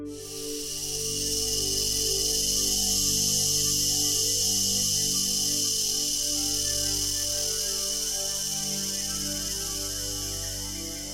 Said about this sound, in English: Keep going at your own pace while we listen to the very famous cicada buzzing sound.